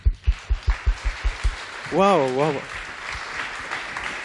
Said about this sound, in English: Let's give a first really long, warm round of applause whilst the slides are coming up. Welcome.